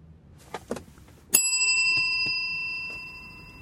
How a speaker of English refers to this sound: That's a bell of gratitude. That's a gratabell. A gratitude bell? A bellitude? I don't know. Just very grateful.